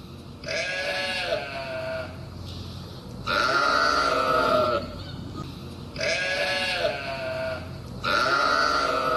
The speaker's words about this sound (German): Es gab nämlich eine große Schafherde, die da diesen Landschaftspark gemäht hat und die hatte das Nachtquartier direkt neben dieser Siedlung. Und das war dann abends dann doch sehr präsent waren diese Schafe.